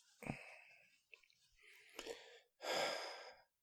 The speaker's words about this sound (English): You'd moan, gasp.